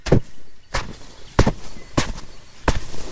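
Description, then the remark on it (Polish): Five sharp, gritty scuffs of a shoe kicking sand up into the air, evenly spaced about every half second, moderately loud, with quiet gaps between them. “Muszą państwo uwierzyć, że to leciał w powietrzu kopnięty przeze mnie piasek.”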